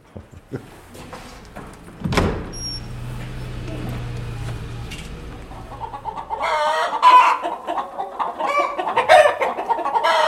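Hens cluck and squawk in a busy henhouse, with a loud clatter like a door sliding around two seconds in, then a dense chorus of overlapping clucks and calls.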